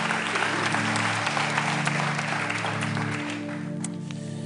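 A crowd applauds a person steadily, with dense overlapping claps that hold at a strong level before easing slightly toward the end; a low steady hum sits underneath.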